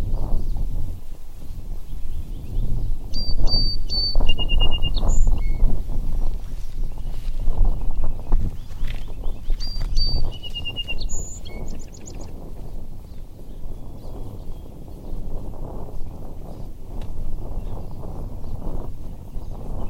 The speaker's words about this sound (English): Okay, which one's next? Song sparrow. Here we go.